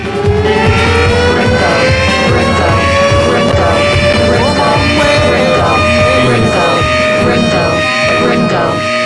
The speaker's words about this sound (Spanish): Se disparó la alarma. ¿Qué pasó?